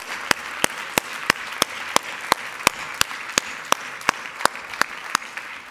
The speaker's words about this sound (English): And church, as you're out here, would you join me in just applauding these men, thanking God for them?